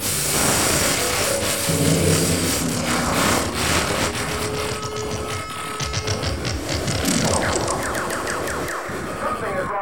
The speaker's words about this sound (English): Do you hear that noise? I said, do you hear that noise? There it goes again. You hear it? that awful interference wrecking your orgasm on the Playboy Channel.